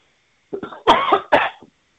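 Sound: coughing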